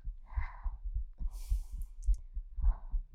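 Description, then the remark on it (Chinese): A human heartbeat, heard with the head resting against the chest, thumps low in a fast, steady rhythm from nervousness, with soft breathing and a brief rustle layered over the pulses. “听到我心跳声。”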